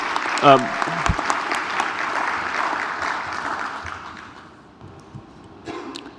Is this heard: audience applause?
yes